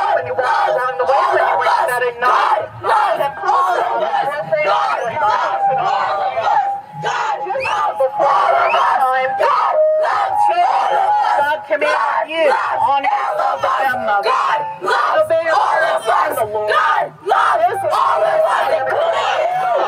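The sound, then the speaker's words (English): A dense crowd yelling and shouting over one another at a street preacher who was talking about sin, loud and continuous for the whole stretch, with overlapping raised voices, chants and occasional screams. “These were people that were yelling at a street preacher today who was talking about sin.”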